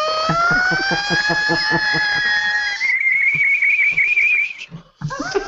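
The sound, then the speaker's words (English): A voice imitates a whistling tea kettle: a long, slowly rising tonal whine jumps to a higher, shrill, steady whistle, then breaks off into a short sputtering squeak at the end. “I'm worried steam the tea kettle's going to go off”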